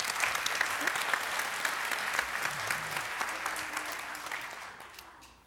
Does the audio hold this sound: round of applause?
yes